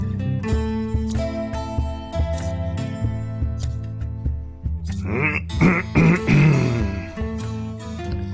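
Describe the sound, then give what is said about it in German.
Music plays, and partway through someone clears their throat with a few rough, raspy bursts while the music continues underneath. “Räuspere ich mich.”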